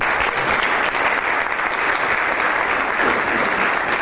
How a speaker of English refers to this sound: So that's also worth a clap.